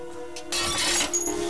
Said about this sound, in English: He hooks his arm around the aerial, and using one hand to drag the case and one hand to pull himself up, he starts to edge back up the roof, smashing a skylight as he goes.